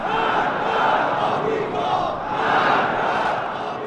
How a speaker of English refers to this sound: The crowd of working-class conservatives and military hardliners responded with full-throated wishes for America's demise.